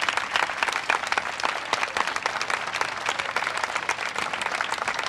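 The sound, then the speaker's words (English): A crowd applauds a musician steadily, many hands clapping in a dense, sustained wash of sound at an even, fairly loud level throughout, with no voices standing out. “I want you to stand up for this one, because I want you to give as great a round of applause as he's ever had in his life for ….”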